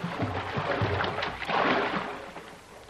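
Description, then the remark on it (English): A small boat rides a big ocean swell, hull slapping and sloshing with a rushing swell that builds and swells louder midway, then eases off, with no voices. “We're going to ride a good big swell. Here we go.”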